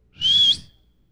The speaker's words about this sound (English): Then he whistled.